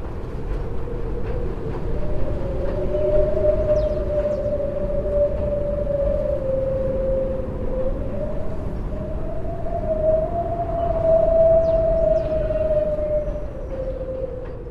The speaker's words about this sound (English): You call it wind harmonics, and we're going to play it again. Mm. And now that people have heard it once, you can listen for the harmonics, for the harmonies that the natural wind is creating off Coney Island.